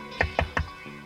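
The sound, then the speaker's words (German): Three quick, evenly spaced, fairly crisp knocks on a door, followed by a brief quiet hum with no voices. “Und so klopfte sie kurze Zeit später an Frau Lemanskis Tür.”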